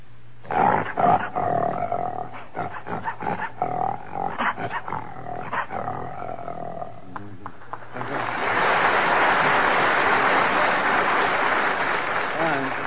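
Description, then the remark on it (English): A man's voice imitates a lion's roar with a series of rough, growling bursts for several seconds, followed by a wash of steady audience applause. “That lion doesn't mean a word of it.”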